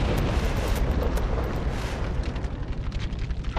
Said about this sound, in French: Vers minuit, acculé, un des terroristes lâche une grenade dans un des hélicoptères qui explose, tuant les 3 otages présents.